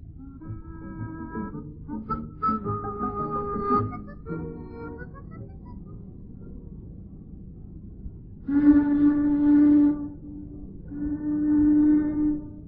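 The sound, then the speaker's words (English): Two loud, steady blasts of a boat siren, sounded as an audible warning of approach on a crowded river, each lasting a second or two, at a fixed low-mid pitch, after a stretch of quieter wavering honks and tones. No one speaks. “you have to keep blowing that siren. Audible warning of approach.”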